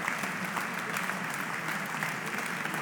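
Sustained applause from the audience and orchestra at the Rainier III Auditorium as pianist François-Frédéric Guy returns to the stage, a dense, steady wash of many hands clapping at an even loudness throughout, with no voices above it.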